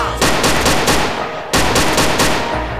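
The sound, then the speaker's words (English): Loud automatic rifle fire in two sustained bursts, each a rapid, steady stream of sharp cracking shots, with a brief break between them. No one speaks. “I love the way the chopper sound.”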